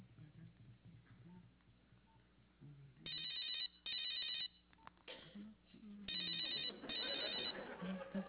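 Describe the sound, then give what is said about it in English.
A telephone rings in repeated bursts, each trill lasting under a second with short gaps between, heard as an outgoing call placed from a cell phone in a comedic call from George W. Bush to Saddam Hussein, with faint murmuring voices underneath. “I gotta make a phone call.”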